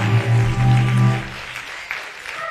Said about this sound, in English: Did y'all get it? Don't just clap your hand.